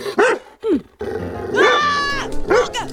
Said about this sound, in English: There's a doghouse here. A mailman's worst fear. Luckily, it's empty. I see, it's empty because the dog is biting my arm.